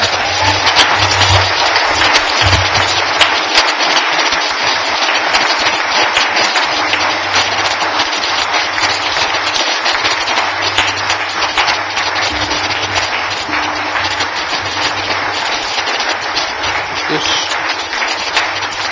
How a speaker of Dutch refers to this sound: En nou wil ik een donderend applaus.